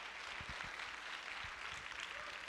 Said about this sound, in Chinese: 要拍手就大声的拍手，将荣耀归给我们的神。